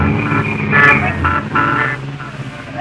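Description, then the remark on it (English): A cab pulls away through heavy evening street traffic as several horns honk in short bursts, loud, over a steady rumble of engines. “I know the traffic will be heavy, so I suggest we start right off to the theater. My cab is waiting.”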